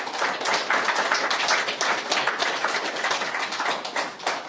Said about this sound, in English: I wasn't looking for applause. I was looking for confirmation or an amen, but I'll take the applause.